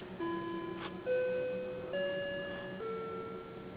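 A clock chimes a short melody of four sustained, ringing bell-like notes at different pitches, each fading into the next, heard clearly and fairly close with no talking.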